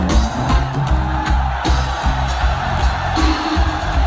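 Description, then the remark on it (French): A huge concert crowd of about 40,000 people sings together at a concert in Anoumambo, Côte d'Ivoire, around 2 a.m. in 30-degree heat, a dense, loud roar of voices that holds steady throughout, with a low, pulsing rhythmic layer and occasional bright swells rising above the mass. “Et alors, ce soir dans la foule, il y a environ 40 000 personnes, les gens sont en transe, ils chantent, ils font des chorégraphies, certains sont au bord des larmes”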